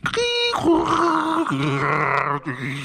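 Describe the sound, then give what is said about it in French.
A beatboxer's voice imitates a dial-up modem: a high whistling tone, then a series of buzzing, warbling pitch steps with hissy static, loud and continuous for about three seconds with no talking. “Donc là j'ai besoin d'un petit bruit de modem de la part de notre cher”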